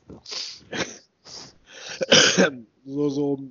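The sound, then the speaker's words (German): Several close, raspy throat-clearing bursts in quick succession, the last one ending in a short voiced grunt. “Klapper, klapper. Räusper, räusper.”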